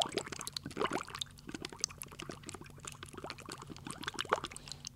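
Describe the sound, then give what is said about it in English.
Water runs and pours into a pot to cook sweet rice, a steady splashing fill with bubbling, liquid gurgles throughout, fairly quiet, no voices. “Sweet rice is cooked by filling a pot with water and letting it boil.”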